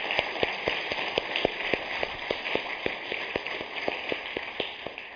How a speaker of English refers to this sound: a round of applause for all he does for the district.